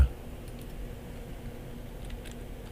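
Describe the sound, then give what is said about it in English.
Soft typing on a computer keyboard, a few light keystrokes in two brief bursts, faint against a low, steady background hum. “You can hear me typing.”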